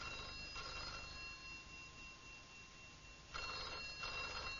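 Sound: telephone bell ringing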